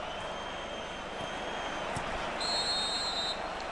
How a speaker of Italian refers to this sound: C'è un fischio.